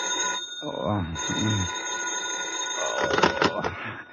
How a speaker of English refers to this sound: It's almost noon when the phone wakes you.